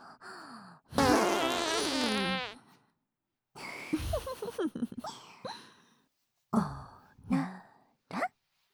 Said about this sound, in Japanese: ほら、臭いおならもクンクンよ。 おならクンクン、臭いおならむわん。